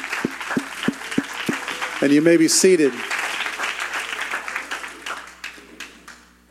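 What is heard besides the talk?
audience clapping hands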